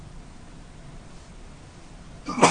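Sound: sneeze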